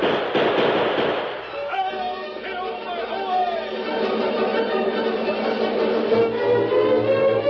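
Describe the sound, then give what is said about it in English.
A loud, dense burst of gunshots fills the first second, then gives way to steady tonal sound with murmuring voices underneath. “Shoot to kill.”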